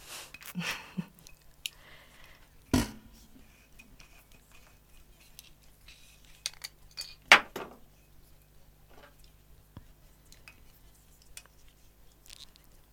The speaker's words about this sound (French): Ouais, ça va prendre un petit peu de temps parce qu'en fait, j'ai amené une bouteille de vin et il faut que je l'ouvre.